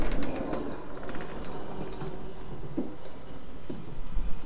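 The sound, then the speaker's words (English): An automatic door mechanism, started by pressing a pad, whirs and grinds steadily for several seconds as the door opens, with faint clicks and a humming motor tone. It is moderately loud, and no one speaks. “open the door for me.”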